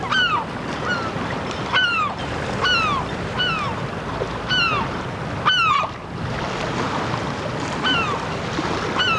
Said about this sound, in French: Ce son-là est donc aussi devenu un bruit de la ville, le cri du goéland. Alors, on connaît trois espèces de goélands en Bretagne. Le goéland argenté, c'est surtout de celui-là qu'on va parler.